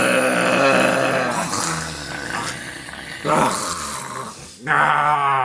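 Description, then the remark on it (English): A voice lets out a rough, guttural snore-like growl while trying to scream, loud, drawn out in a few strained bursts over several seconds with no clear words. “I didn't end up finding out how to scream, and I proceeded to let out a weird guttural noise that resembled a loud snore.”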